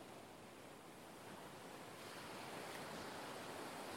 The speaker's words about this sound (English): Hear the waves.